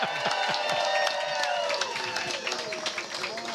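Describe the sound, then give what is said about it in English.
A crowd breaks into a sustained round of applause for Don Reckler, team owner of the San Antonio Gunslingers. Dense, steady clapping continues throughout, with voices cheering and whooping over it at a loud, even level. “Can I get a big round of applause for Don Reckler, our team owner, please?”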